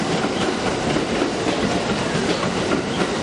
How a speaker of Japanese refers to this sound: 普通伊藤行きが参ります。危ないですから黄色い線までお下がりください。この列車は4つドア10両です。